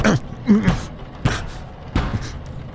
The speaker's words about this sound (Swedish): Kunden bankade på dörren inifrån kammaren.